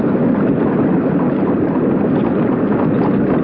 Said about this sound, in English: There. It is better now. Such a noise won't hurt you, Felipe. It's just the sound of the water.